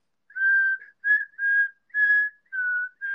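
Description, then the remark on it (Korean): Someone whistles a short tune, a series of clear, sustained tones in quick phrases with brief pauses between them, no one talking. “휘파람 리코더인 줄 알았어요?”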